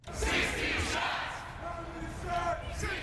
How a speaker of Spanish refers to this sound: Cientos de manifestantes coreando 16 disparos recorrieron las calles del centro de Chicago el martes por la noche